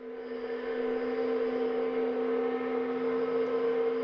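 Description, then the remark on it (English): The Pactiv Evergreen paper mill's noon whistle in the town of Canton blows for the final time before the mill's shutdown: one long, unbroken note, low and reedy with rich overtones, holding steady and loud for the full four seconds with no voices. “At noon today, a whistle rang out over the town of Canton, as it has daily for decades.”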